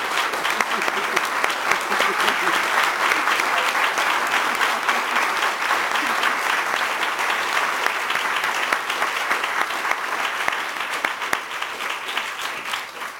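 Sustained audience applause honoring two men who stand up, a dense steady clatter of many hands clapping at an even loudness for over ten seconds before it begins to thin out at the end.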